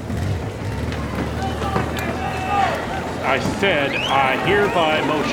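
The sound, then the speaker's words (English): Members of Congress bustle and hurry out through the doors of the chamber on Capitol Hill to catch a glimpse of a congressman on his motorcycle, with a steady clatter of many footsteps, shuffling and door noise under overlapping excited voices and shouts, fairly loud throughout. “Now, our listeners can't see this, but we've just heard all the members of Congress run out the doors to catch a glimpse of him on his motorcycle, leaving Representative Johnson all alone on the floor of the chamber.”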